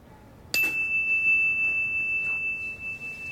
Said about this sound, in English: A bell. We're going to listen. And when the bell stops, when you can't hear it anymore, raise your hand.